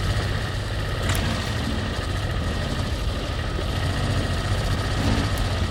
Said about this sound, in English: I disconnected one of my spark plugs to make the engine sound rougher. Then we drove the car over the ruts and through the weeds while Dave hung out the passenger side window, holding the microphone down by the wheels. Here's what it sounded like.